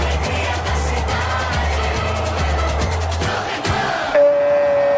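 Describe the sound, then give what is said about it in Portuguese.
A packed stadium crowd in Doha, Qatar roars in celebration after Morocco scores a goal at the 2022 World Cup, a dense, loud wall of cheering over steady rhythmic low thumps, ending with a sustained horn-like tone. “Explosão de alegria no Alto Mama em Doha do Catar.”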